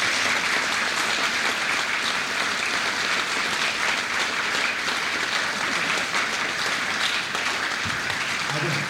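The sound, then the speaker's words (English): A crowd applauds steadily for a band, a dense, even wash of clapping that holds at a consistent loud level for the full stretch without pause. “I would just endorse that sentiment about the band and call for just one more round of applause for a very fine band.”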